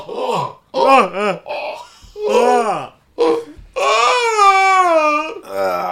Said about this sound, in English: I think he yawned or cried. The big ugly cried.